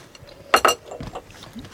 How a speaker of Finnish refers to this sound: Mäkin tästä kurkottelen ja mehän täällä sitten kaikki rouskutetaan näitä livenä, että ei kannata pelästyä tätä ääntä, koska se on täällä pakko.